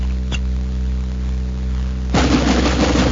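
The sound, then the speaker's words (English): A Frigidaire Jet Action washing machine runs with a steady low motor hum and a brief click, then abruptly bursts into a loud, rough churning rush of water for the last second. “That sound will take you out of the old-fashioned washer age with Ringers and automatics and into the new Jet Action Washer age.”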